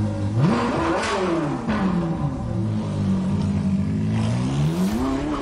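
A car engine revs hard and steadily, its pitch climbing, dipping, and climbing again over several seconds, loud with no voices.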